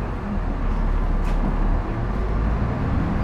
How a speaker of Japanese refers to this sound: はい、扉閉まります。 扉が閉まります。 扉はい、開きます、ご注意ください。